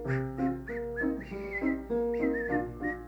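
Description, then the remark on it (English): A whistled melody of steady, sustained notes carries a tune over a soft, harmonically rich musical backing, moderately loud, with no talking. “Anybody can whistle?”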